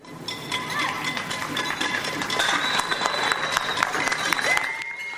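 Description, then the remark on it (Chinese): People in the UK, living under lockdown, clap and cheer toward the streets on a Thursday evening at eight to support medical workers: dense overlapping applause with scattered shouts and a few whistles, loud and sustained throughout. “仍然活在居家零下的英国民众，星期四晚八点钟一起面向大街小巷鼓掌欢呼，为医护人员打气。”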